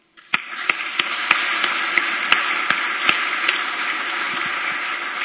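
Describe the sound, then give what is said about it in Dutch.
Modest applause in a church, given as a token of appreciation for those who help make the services possible: a steady wash of clapping from a small group, with a few sharper individual claps standing out, continuing evenly for about five seconds with no voices. “En ik denk, we zijn het in de kerk niet zo gewend, maar dat een bescheiden applaus zeker op zijn plaats is als blijk van waardering.”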